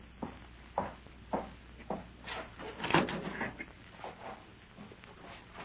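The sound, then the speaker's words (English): A door is handled, with a run of short wooden knocks and rattles and one louder thud partway through. There is no talking. “Close that door.”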